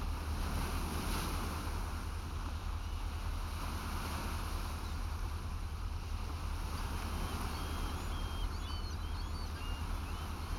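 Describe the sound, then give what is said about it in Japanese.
Gentle waves of an inland sea under a blue sky, heard through a fully opened window: a steady, soft wash of water lapping continuously, with a low rumbling undertone and breezy hiss throughout, no voices present. “ほら、聞こえる？内海の優しい波の音。”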